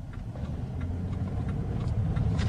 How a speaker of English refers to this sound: I'm in a car heading for 5959 Las Colinas Boulevard in Dallas, Texas. It is the global headquarters of ExxonMobil.